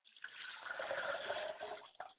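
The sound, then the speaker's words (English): Water being poured as a libation in a steady, splashing stream for about two seconds, moderately loud, ending with a brief final splash. “I pour libation for my mother, and I say, Ashe.”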